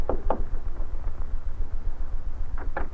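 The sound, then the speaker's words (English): Two quick raps on the wooden door of Powell's house, then a pause and another pair of knocks, distinct over a low, steady rumble. “It was about a half an hour later when Northcott rapped on the door of Powell's house.”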